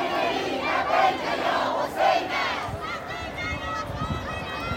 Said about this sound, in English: As hot winds sweep across the area, people continue to pour in, chanting slogans like God is great. As they arrive, they carry flags and make their way forward.